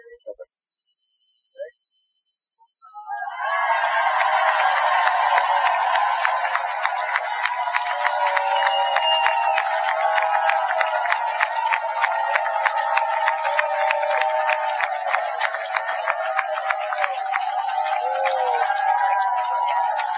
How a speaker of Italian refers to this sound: E quando vi farò così, ok, voi dovete applaudire, sbracciarvi, yeah, yeah, yeah, al massimo della vita, ok?